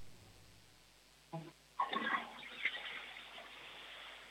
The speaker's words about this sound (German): Das war eine tolle Klospülung.